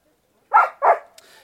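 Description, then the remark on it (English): Two quick, sharp dog barks, one right after the other, followed by a brief click and a faint trailing sound. “Dog has to spoil the rubbish, doesn't she?”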